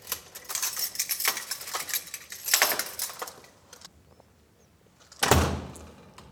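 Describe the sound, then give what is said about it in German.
A door is handled: a few seconds of metallic rattling and latch clicks, a quiet pause, then a heavy thud as it swings shut, as people pass through it on the way down into the staff area of a former telecommunications depot building. No one speaks. “Wo müssen wir lang? Durch diese Tür.”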